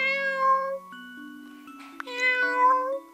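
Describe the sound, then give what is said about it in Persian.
A fluffy cat named Sandy meows twice, clear, with a drawn-out call at the start and another after a short pause and a small click, backed by soft tonal notes. “او یک گربه پشمالو داشت که او را سندی صدا می زد.”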